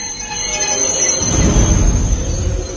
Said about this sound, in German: Kurz darauf erreicht ein Zug mit diesen Ausreisenden aus der tschechischen Hauptstadt den Karl-Marx-Städter Hauptbahnhof.